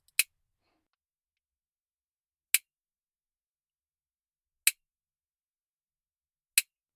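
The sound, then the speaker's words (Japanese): Four crisp, sharp snips of a nail clipper trimming the claws of a calm cat named Nyanta, spaced roughly two seconds apart, each a bright, brief click against near silence with no voices. “爪切りもシャワーも気に入ったのかな？”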